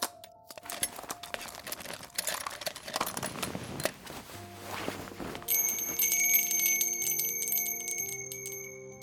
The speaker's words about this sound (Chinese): 这是我送给你的礼物，想必你会非常喜欢。瞧瞧这清脆的铃声，真是悦耳极了，喜欢吗？